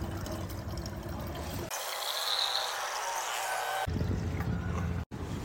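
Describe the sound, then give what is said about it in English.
A steady hiss of running water from a free push-button public drinking fountain in Brooklyn Bridge Park, New York City, starting abruptly and flowing for a couple of seconds before cutting off, with outdoor background noise around it. “Free water, Brooklyn Bridge Park, New York City.”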